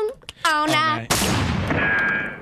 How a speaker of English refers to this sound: There's gonna be guns firing. You're gonna hear a bunch of explosions. All night long.